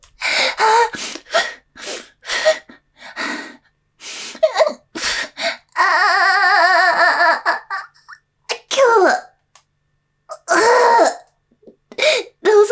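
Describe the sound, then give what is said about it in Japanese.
A loud coughing fit brought on by Systema while trying to hold it back: a rapid run of short harsh coughs and gasping breaths, broken up by a sustained voiced moan partway through, then more sputtering coughs. “気持ちいい、我慢しようとしたら咳込んじゃう。”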